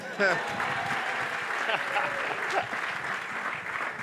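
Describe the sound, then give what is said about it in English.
An audience claps steadily, a dense, sustained wash of applause with a few louder bursts and scattered voices mixed in, holding at an even level throughout. “Felt like y'all should clap again.”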